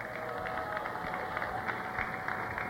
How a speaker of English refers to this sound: And we are at the Sid Hartman Soundalike Contest at the Mall of America, this big monstrosity and America's original sports bar, and a great crowd out here. Why don't you give yourselves a little round of applause? We appreciate your participation.